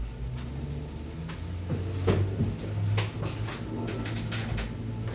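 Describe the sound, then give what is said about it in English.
A door is opened, with a few knocks and rattles of the latch and frame over a low, steady hum, and a louder clunk near the middle. “Could you try opening the door again?”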